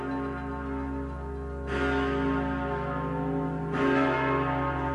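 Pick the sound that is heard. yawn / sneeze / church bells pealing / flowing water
church bells pealing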